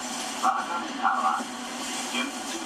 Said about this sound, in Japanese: みたいですね。あの発車前のなんかこんな音とかありますよ。